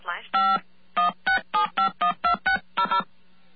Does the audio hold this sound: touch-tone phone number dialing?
yes